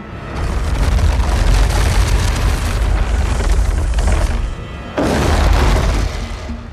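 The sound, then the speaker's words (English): A loud, heavy grinding rumble of a cinder block dragged across a wooden floor by sound designers to create the menacing rumble of the Balrog, the fire-breathing demon in The Lord of the Rings movies; sustained and gritty with a deep low end, breaking off briefly before a second long scrape. “Sound designers created his menacing rumble by dragging a cinder block across a wooden floor.”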